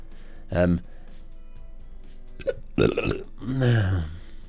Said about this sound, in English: I keep burping.